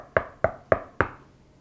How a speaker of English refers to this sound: What happens when you hear someone knock at your door? Somebody's at the door. There's somebody out there. They keep a knocking, you get annoyed, don't you, if you don't hurry and get there.